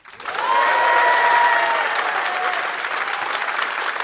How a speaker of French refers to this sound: toutes deux vous accueillent pour le jeu et les spectateurs nombreux qui reçoivent avec plaisir et avec les applaudissements qui leur sont dus nos candidats d'aujourd'hui.